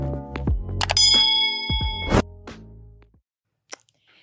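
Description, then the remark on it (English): Glasses clink together in a toast, several bright ringing chimes in quick succession that sustain and fade, followed by a brief pause and one faint tap near the end. No talking. “Cheers to us being back.”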